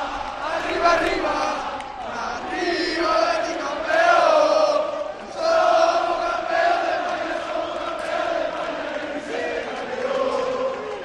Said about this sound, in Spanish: Y entonces estos gritos que se están escuchando se cuelan por las ventanas de la sala de prensa y no terminan de poder escuchar las preguntas Manuel Pellegrini. Es el sonido en directo desde el exterior del campo,